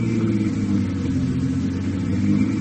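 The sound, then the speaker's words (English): A small plane engine turns over on an airport field, a continuous low, throbbing drone with a humming overtone that holds even throughout, with no voices over it. “There it is, the little one with the engine turning over.”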